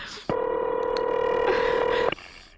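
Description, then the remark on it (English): A single ringback tone buzzes on the phone line, a steady electronic purr lasting about two seconds before cutting off, with no voices. “Please answer the phone. Why does it take so long?”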